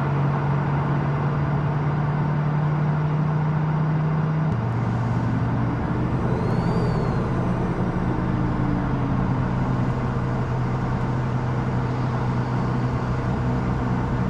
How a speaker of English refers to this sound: Where the camera is switching, like, we heard the truck on the right, now we hear in the middle.